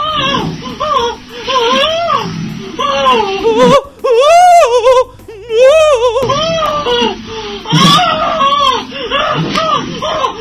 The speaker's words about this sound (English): Here's a clip of a woman orgasming. She sounds just like me when I'm pretending to be a woman.